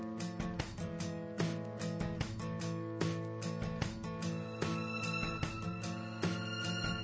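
A phone rings with a melodic, musical ringtone, a steady run of bright repeated notes playing continuously and fairly loud for several seconds, with no one talking over it.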